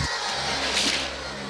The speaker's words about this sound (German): Dichter als sonst sind die Straßen von Autos bevölkert, die ohne besondere Eile rund um das Zentrum bewegt werden.